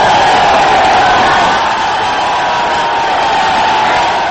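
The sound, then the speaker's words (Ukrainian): A crowd of about 10,000 supporters greets field commander Abdul Rashid Dostum in Sheberghan, northern Afghanistan, on Monday. They cheer loudly and continuously in a dense roar of many voices with scattered shouts, sustained at a steady level throughout without any pause. “Так він запросив повернутися до Афганістану польового командира Абдуллу Рашіда Достума, етнічного узбека, якого у північно-афганському у Шібергані у понеділок зустрічав 10-тисячний натовп прихильників.”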